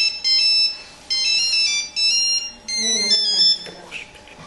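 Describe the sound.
A phone ringtone plays a bright, repeating electronic melody in several short bursts, fairly loud, with a faint voice briefly underneath.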